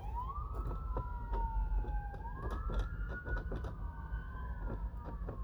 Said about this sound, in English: I'm talking about something important, and these sirens, these red, now they got red and blue on the police, but these sirens are going by